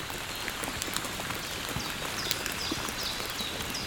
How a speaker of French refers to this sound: Une pluie fine.